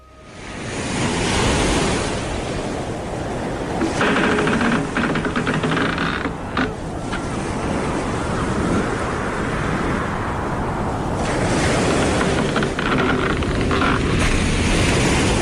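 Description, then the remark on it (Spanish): Steady, roaring surf of sea waves with gusting wind out at sea, a dense continuous wash of noise that swells and eases slightly, loud throughout with no voices. “Hoy, sin embargo, vamos a salir de nuestra zona de confort para aventurarnos mar adentro.”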